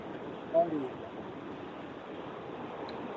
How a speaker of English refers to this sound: We seem to have a waterfall, but it's appropriate because this is exactly what... Maybe it's divine providence coming in, giving us some special effects, because that noise, what we're hearing in the background, is really quite reminiscent